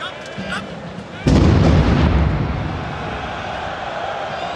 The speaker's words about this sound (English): No, and one of the more striking images from that day was, you know, this vine making the rounds of the game at the Stade de France, and you hear the explosions in the background.